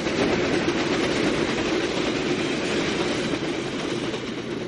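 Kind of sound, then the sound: vehicle, express train thundering past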